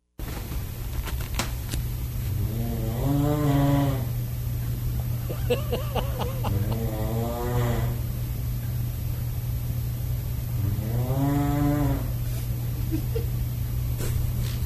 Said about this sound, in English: here is … snoring through the door